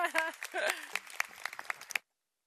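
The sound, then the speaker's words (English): A short burst of scattered audience applause for the 607th Street mixed-use housing development being named an awards finalist, a handful of sharp uneven claps, follows a brief voice and then cuts off abruptly into silence. “You can applaud.”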